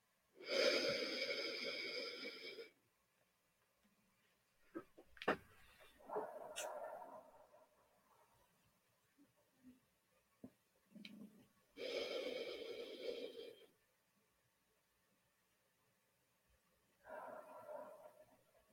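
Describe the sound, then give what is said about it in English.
Three slow, deep breaths taken for meditation, each a long airy rush of several seconds, separated by quiet pauses with faint small sounds between them. No one speaks. “And as you complete the cycle of those three breaths, allowing the breathing to return to a natural pace, and yet with this deeper support and engagement with the breath,”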